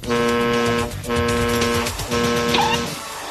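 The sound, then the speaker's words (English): A loud, steady horn on a fixed beacon, set up as a sonar test, honks three times in long blasts, each lasting close to a second, with a short gap between them and a faint higher chirp near the end. “He'll create a fixed beacon with a honking horn and listen through a traffic cone connected to a garden hose.”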